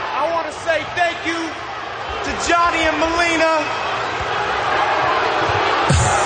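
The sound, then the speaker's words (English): A WWE crowd boos Kevin Federline loudly, with drawn-out, low jeering vocal tones in the first half that give way to a steady roar of crowd noise and a brief thump near the end. “Everybody in the crowd is booing him, of course.”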